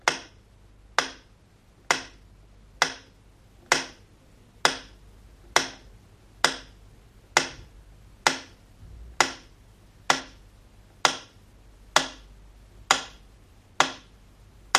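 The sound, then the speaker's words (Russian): A metronome ticks steadily over the Leningrad city radio, one sharp click roughly every second, about fifteen in a row, with a faint low hum underneath and no voices. “Метроном – это вообще вторая жизнь, это сердце города, которое прерывалось только звуками отбоя или тревоги.”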